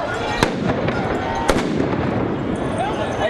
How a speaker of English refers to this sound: Police responded with tear gas and stun grenades.